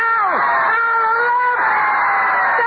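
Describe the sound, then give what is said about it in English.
A loud, dense roar of an excited boxing crowd clamoring at ringside at McCoy Stadium as the main event between Danny Ware and K.O. Jackson reaches its climax, steady throughout with shrill yells and whoops rising out of the din. “In Danny's corner, Pops Keeler, the venerable fight handler and Danny's manager, shouts instructions, oblivious to the clamor of the crowd.”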